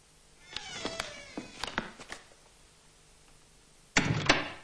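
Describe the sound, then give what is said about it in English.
A door swinging shut of its own accord creaks in a few drawn-out, whining squeaks as it swings, then, after a short pause, bangs shut with a loud thud. No one speaks. “She turns again to the door, alarmed to see it swinging shut of its own accord.”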